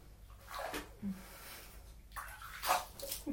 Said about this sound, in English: Hey, stop splashing me.